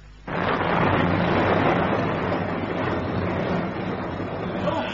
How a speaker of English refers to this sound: A storm worse than most, I agree. As long as there's no hail, beats down my young cabbages.